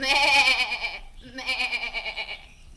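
A goat bleats twice, loud, each call a quavering, nasal cry; the first is short and the second stretches out longer before trailing off.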